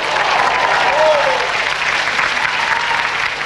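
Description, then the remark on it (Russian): A large audience in a hall applauds loudly and steadily, with scattered voices shouting "Bravo!" over the dense clapping throughout. “Я попрошу, чтобы весь зал с криками «Браво!»”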